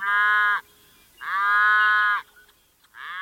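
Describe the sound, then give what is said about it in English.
Cattle mooing on an open northern prairie range: three drawn-out, harmonically rich, loud moos separated by short quiet pauses, the last one cut off at the end. No one speaks. “The cheerful-voiced chestnut-collared longspur gets along well with the cattle that share its northern prairie breeding range, for the most part.”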